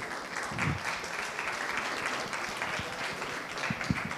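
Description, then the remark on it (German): An audience applauds steadily to welcome a technology journalist onto the stage at a session, a dense wash of many hands clapping at once that holds at an even level for the whole stretch, with no voices standing out. “Einen großen Applaus”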